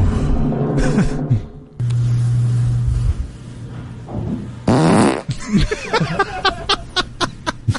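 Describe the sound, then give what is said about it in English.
A loud fart recorded on a phone on April 22, 2020: a low, buzzy drone lasting about a second, surrounded by sputtering bursts and some handling noise and clicks toward the end. “This is the last fart that I have recorded on my phone.”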